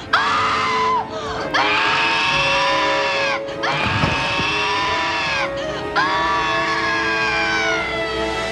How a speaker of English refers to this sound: In full content warning, and so more of this horrifying scream.